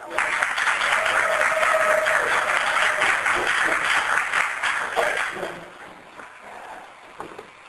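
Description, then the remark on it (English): A crowd claps steadily in a dense, loud burst for about five seconds, then the applause thins out and fades to a few scattered claps and faint murmurs. “Usually I like to sit in the back and get more applause, but you guys stop early anyway, so.”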